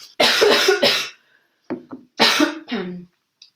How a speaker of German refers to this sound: Und Entschuldigung, jetzt muss ich mal kurz husten.